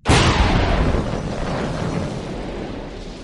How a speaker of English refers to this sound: Suddenly, the breath was knocked from his body. Solitaire and Bond went right up out of the sea before falling back again. The sky lit up with the huge explosion.